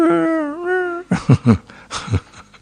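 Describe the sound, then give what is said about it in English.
A voice imitates the squeaky whimper of a fluffy dog being petted: one drawn-out, high nasal whine lasting about a second, followed by a few short, mumbled vocal bursts. “It's making a squeaky sound.”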